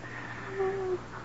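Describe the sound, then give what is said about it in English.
A single strained, wheezing breath from a woman, with a thin whistling tone, lasting about half a second, quiet over a low background hiss. “She's still breathing.”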